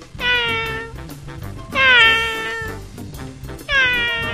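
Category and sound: animal, cat meowing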